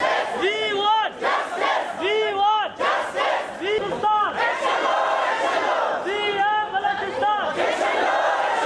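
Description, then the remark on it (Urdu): A large crowd of male and female students, protesting outside the Quetta Press Club in Pakistan against the entry test for medical college admission, chants slogans for their demands in loud, rhythmic unison, voices rising and falling in repeated bursts, continuous throughout. “وہ اپنے مطالبات کے حق میں نعرے بازی کرتے رہے.”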